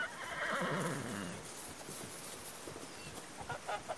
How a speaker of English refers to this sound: Just past the pig pen, two brown horses come trotting into view past the pond, shaking their long manes in the cool breeze, going neigh, neigh.